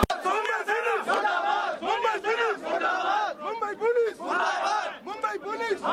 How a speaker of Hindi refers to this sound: अर्नब गोस्वामी की गिरफ्तारी पर भारतीय जनता पार्टी के छोटे बड़े सभी नेताओं ने प्रतिक्रिया प्रकट की और सड़कों पर भी विरोध प्रदर्शन हुए।